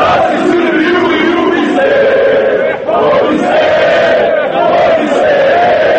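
crowd

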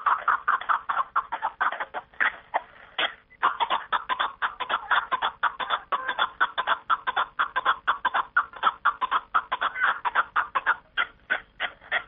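partridge calling

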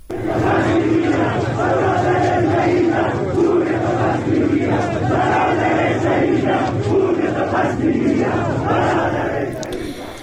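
protesters chanting slogans

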